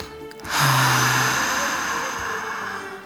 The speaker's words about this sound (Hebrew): בואו ניקח נשימה עמוקה, עמוקה.